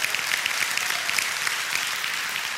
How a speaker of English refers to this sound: Give the Lord a hand clap for the priest.